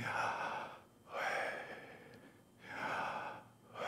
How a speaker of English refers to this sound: But some Hebrew rabbis said that the best way or the most authentic way to pronounce Yahweh is by breathing.